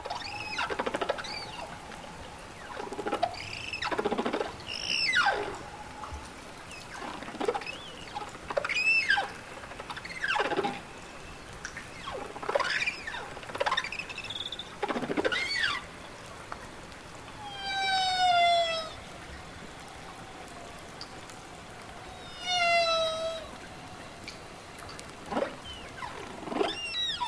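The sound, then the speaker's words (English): An underwater whale song: a steady sequence of sweeping whoops, rising squeals and buzzy pulsed calls, repeating every second or two against a soft ocean hiss, with no voices. “when she turned off the engine of the research boat, she could actually hear the song emanating from the water.”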